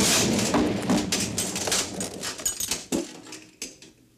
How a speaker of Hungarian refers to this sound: Mi volt ez? Defekt? Nem. Nyugodjék meg, csak lőnek ránk.